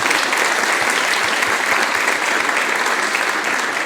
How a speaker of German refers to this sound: Also Applaus für die Frühstücksgang.